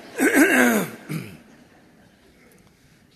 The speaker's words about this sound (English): Doesn't it make you all want to clear your throat for me?